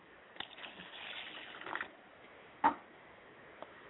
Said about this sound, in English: And I pour water to the ground, and I say Wotutu. And that the ground is sanctified where the water